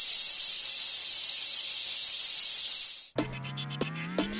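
A loud, steady, high-pitched cicada buzz drones continuously for about three seconds in the jingle of the UPV Ràdio programme El cant de la Chicharra, then stops abruptly as bright music with plucked, ringing tones takes over.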